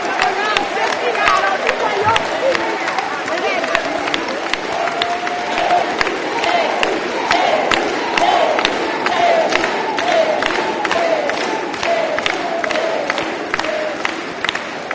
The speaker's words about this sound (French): Quels sont ceux qui croient que Jésus est là? Levez-vous, applaudissez-le. Encore.